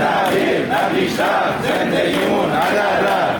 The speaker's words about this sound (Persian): اینجا در اهواز هم فریادهای کارکنان و کارگران قرارداد موقت شرکت بهره برداری نفت کارون.